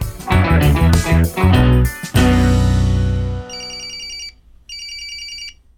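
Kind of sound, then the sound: signal or alarm, telephone ringing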